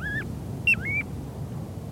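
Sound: piping plover call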